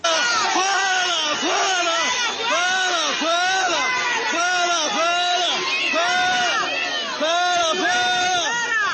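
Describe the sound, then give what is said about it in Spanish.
A large crowd in Acacías, in the Meta department, loudly chants a short two-syllable cry of "fuera, fuera" ("out, out") at former president Uribe over and over in a steady, insistent rhythm, mixed with booing, filling the whole stretch without pause. “El sábado estuvo Uribe en Acacías, en el departamento del Meta, y la gente también le gritó fuera, fuera, fuera, óiganlo.”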